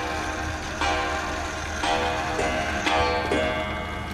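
Several clocks tick steadily at once, their overlapping beats forming a dense, regular rhythm of sharp clicks in a quiet room, with no one speaking.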